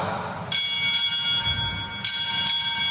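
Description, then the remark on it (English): A ship's bell rings four times in two quick pairs, each clear metallic strike sustaining and overlapping the next, over a low murmur of background noise, struck by the time orderly at a Navy change of command ceremony at Naval Air Station Pensacola for an official's arrival. “One of the traditions attached to a change of command in the Navy is the striking of bells during the arrival of the official party.”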